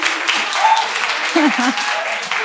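An audience claps steadily for a couple of seconds, a dense, even patter of many hands at a fairly loud level, with brief vocal sounds or cheers rising faintly through it.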